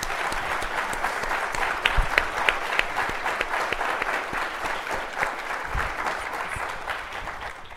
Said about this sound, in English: And with that, studio audience, could you please provide our panelists with a fantastic round of applause for their comments today.